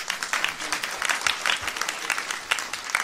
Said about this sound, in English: You can take your seat. Grab a round of applause for the Lord. Come on, come on.